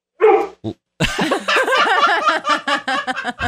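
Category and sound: animal, dog barking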